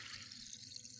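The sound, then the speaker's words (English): A steady, soft fizzing hiss of tiny champagne bubbles crackling continuously, quiet, with no voices over it. “Can you hear the bubbles, man?”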